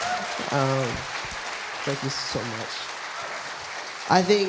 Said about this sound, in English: Give a round of applause to our panel here. Thank you so much.